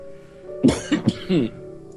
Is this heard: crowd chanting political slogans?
no